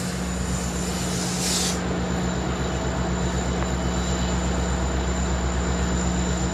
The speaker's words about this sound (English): Sorry, this train about to leave. Isn't that a great sound?